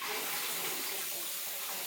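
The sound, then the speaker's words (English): A tap runs steadily, filling a glass with drinking water in a continuous rush, with no one speaking. “Water, he wants water. What size glass do you want?”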